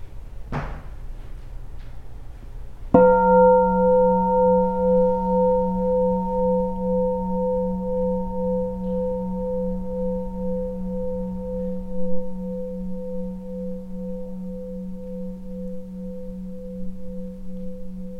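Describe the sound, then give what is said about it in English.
A meditation bell is struck once after a brief soft tap, its deep, steady tone and bright overtones ringing out alone and fading very slowly for about fifteen seconds. “So maybe we can enjoy a sound of the bell and feel refuge right here.”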